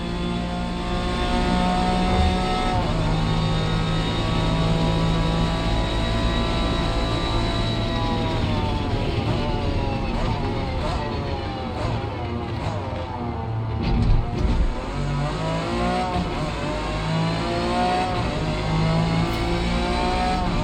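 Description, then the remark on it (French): A racing car on the Le Mans 24 Hours circuit screams loud, its engine pitch climbing and dropping repeatedly as it shifts through gears and brakes for corners, with continuous tyre and mechanical noise underneath. “Mais vous entendez vraiment les roues quoi de la voiture à l'intérieur, comment c'est vraiment bien réparti sur le plan de la spatialisation au niveau des panoramiques.”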